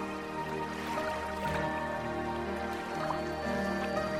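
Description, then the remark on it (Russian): Soft, steady sea waves wash and lap gently on the shore in the background, blended with sustained calm musical tones, with no distinct peaks and no one speaking. “Как ленивые волны катятся по берегу, чтобы наконец опуститься вниз и отдохнуть.”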